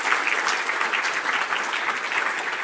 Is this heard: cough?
no